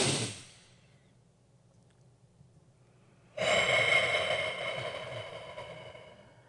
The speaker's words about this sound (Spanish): Les invito ahora a tomar una respiración profunda.